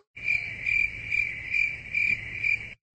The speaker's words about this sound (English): All you got is the crickets.